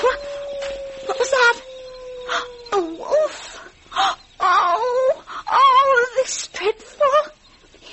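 animal, wolf howling

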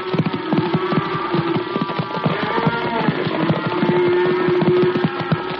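animal, horses galloping

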